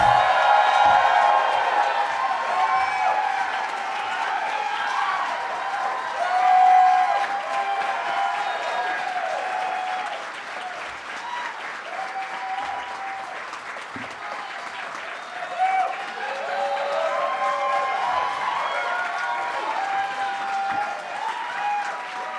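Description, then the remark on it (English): A long, steady burst of audience applause as the host comes out at a live Doug Loves Movies show, dense clapping sustained for over twenty seconds with scattered cheers and whoops rising through it, loud throughout with a few brief swells. “You guys clapped for so long, just made it sound like I was lazy getting out here.”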